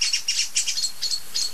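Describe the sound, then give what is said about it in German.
Songbird alarm calls from many birds, including blackbirds and song thrushes, with a golden oriole landing atop a treetop and a jay joining in, ring out in quick, high-pitched bursts, several sharp chirps overlapping in an uneven rhythm, moderately loud with no voices. “Jetzt kommt der Pyrol, setzt sich ganz oben auf die Krone, über die ganze Glocke von Alarmrufen.”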